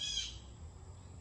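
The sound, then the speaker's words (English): A single short, high bird call sounds at the very start, fairly faint, then fades into a low, steady background rumble with no one speaking. “What kind of bird is that?”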